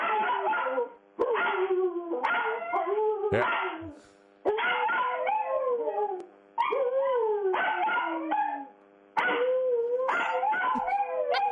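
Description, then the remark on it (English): A Jack Russell terrier named Hunter barks and howls in drawn-out, wavering bursts, loud, with several long vocal phrases separated by brief pauses. “So far, just barking.”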